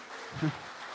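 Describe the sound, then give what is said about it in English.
An audience at a church service claps in a steady, dense wash of many hands, fairly soft and unbroken for the whole second, with a brief low vocal sound rising briefly near the middle. “So let's just clap. Come on, give me a hand.”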